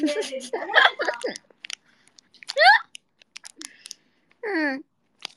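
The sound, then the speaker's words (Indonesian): Crisp crunching of ice being chewed in irregular bursts of sharp cracks, with a few short voiced murmurs and sighs between the bites. “Seruput esku habis.”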